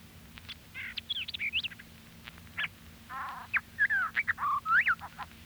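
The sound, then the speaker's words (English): A white-eyed vireo sings two quick, emphatic phrases of sharp whistles, slurred notes and harsh buzzy chatter, clear over a faint low hum. “White-eyed vireo.”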